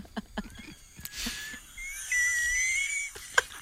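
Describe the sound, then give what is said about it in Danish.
A few soft clicks, then a kettle starts whistling: a thin, steady high tone that wavers slightly in pitch over a rushing hiss of steam, holding for about two seconds. “Så tror jeg, vandet koger igen.”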